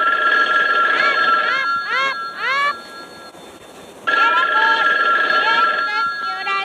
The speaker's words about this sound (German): Am Abend klingelte dann in der Zentrale das Telefon.